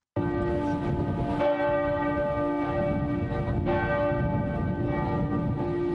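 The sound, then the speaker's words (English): The bells of the Frauenkirche in Dresden peal continuously and loudly across the city's central square in the winter sun, their overlapping rich tones ringing out steadily with a broad, echoing resonance, no voices present. “The bells of Dresden's Frauenkirche ring out across the city's central square, which is ringed by stunning Baroque buildings glinting in the winter sun.”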